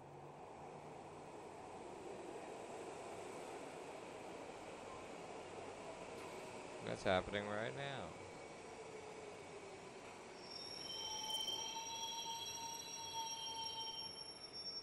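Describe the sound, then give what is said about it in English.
Train wheels squeal at a station over a steady rumbling roar, a clatter bursting through midway, then high, sustained metallic shrieks rising loudly in the final seconds; a brief voice is heard. “Or places unknown like that, or even downtown Union Station, you heard this.”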